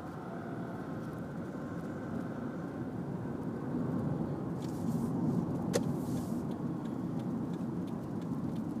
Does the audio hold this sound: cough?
no